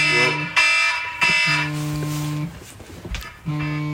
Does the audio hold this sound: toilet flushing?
no